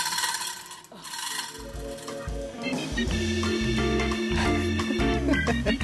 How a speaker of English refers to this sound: We call this a chain hoist. So it turns out that with 16-some different apparatuses, one can lift oneself up. Yes, a short distance.